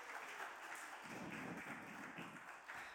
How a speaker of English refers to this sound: Round of applause for all my excellent assistants there.